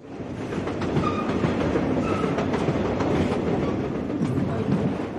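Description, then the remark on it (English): A train on the line from Moscow toward Beijing rolls steadily along the rails, its loud, continuous rumble broken by faint rhythmic clicks from the wheels, with no one talking. “Let's get back on the train.”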